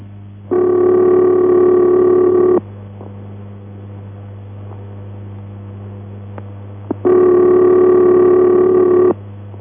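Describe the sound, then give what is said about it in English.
An American telephone ringback tone, as heard on calls dialed internationally to the United States: two steady, buzzy two-second bursts separated by about four seconds of quiet, with a low electrical hum running throughout. “The ringing tone you will hear on most calls you dial to the United States of America will sound like this.”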